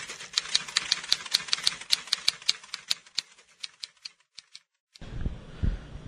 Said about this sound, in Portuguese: Os ouvintes, não se preocupem com esse barulho no final, que é um barulho de uma máquina de datilografia.